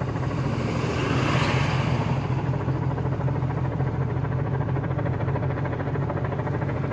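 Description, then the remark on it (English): Many helicopters drone steadily overhead, a loud continuous engine roar with a deep throbbing rumble that swells slightly early on and then holds level, with no voices. “I'm not sure if you all can hear it, but man, there is helicopters everywhere. You can hear them.”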